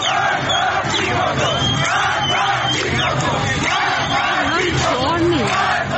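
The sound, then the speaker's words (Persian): A large crowd of protesters gathered in a city street shouts and chants together, many overlapping voices rising and falling in loud, rhythmic cries that stay dense and steady throughout. Protest gatherings were reported in Ghahderijan in Isfahan province, Bandar Abbas, Sanandaj and Kuhdasht in Lorestan. “خیابان بعضی از شهرها هم شاهد تجمع معترضان بود، از جمله قهدلیجان در استان اصفهان، بندرعباس از شام، بندرعباس، سرندج و کوهدشت لرستان.”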